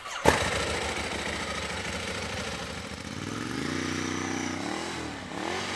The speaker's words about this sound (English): And when he got back from Iraq, he got himself a present, a brand new motorcycle. It's a Ducati 1098S, red.